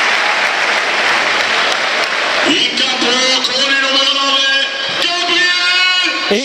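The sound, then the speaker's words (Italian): The crowd at the Tardini stadium applauds Bonny as he is substituted for Charpentier in a match against Cagliari, a steady, dense wash of clapping that fills the whole stretch, and partway through a man's voice begins speaking over it. “E questo è l'applauso, l'applauso del pubblico del Tardini.”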